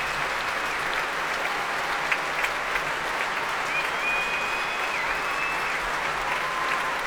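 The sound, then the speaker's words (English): Sustained applause from a large audience at the Royal Albert Hall during the BBC Proms as conductor Keith Lockhart returns to take another bow and applauds the professional and amateur musicians, a dense steady wash of clapping, loud and even, with a faint whistle or tone briefly rising above it midway. “Keith Lockhart is coming back on now to take another bow and is warmly applauding all the musicians, both professional and amateur, young and old, bringing them to their feet again.”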